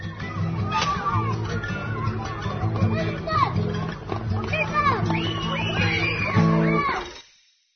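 Children playing noisily at recess: a steady crowd of high young voices shouting, squealing and chattering over one another, with no pauses, fading out at the end.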